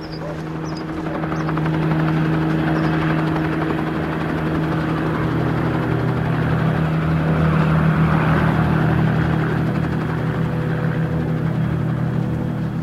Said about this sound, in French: des battues citoyennes sont organisées dans les alentours de Grès et un hélicoptère de la gendarmerie est mobilisé.